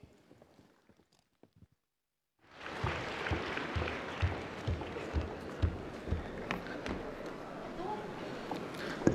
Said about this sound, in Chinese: 谢谢大家掌声鼓励。